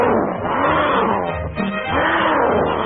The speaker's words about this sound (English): Then his eye spotted another banner, and he heard the most ferocious-sounding roar.